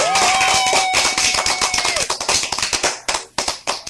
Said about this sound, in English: Let me give you a clap again because you deserve it.